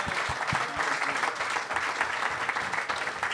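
A live audience applauds steadily, a dense wash of many hands clapping at once with no one speaking, holding at an even, fairly strong level throughout.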